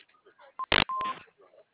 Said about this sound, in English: name and phone number after the beep. We will return your call.